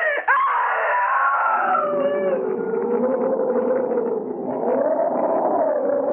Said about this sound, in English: That I screamed.